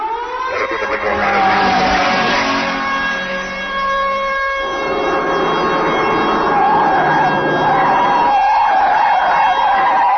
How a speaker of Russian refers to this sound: Неожиданно подъехало несколько автобусов.